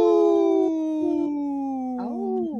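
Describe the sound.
A comedian imitates a wolf howl on Native Roots Radio for a segment supported by Howling for Wolves: one long, steady wailing note that sags gently in pitch, then swells and bends near the end before fading, fairly loud.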